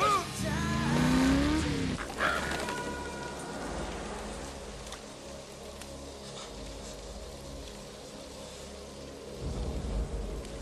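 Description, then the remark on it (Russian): A police car drives by, a short rising siren whoop at the start, then a steady low engine rumble under a constant rain-like hiss that swells again at the end. “машина копом.”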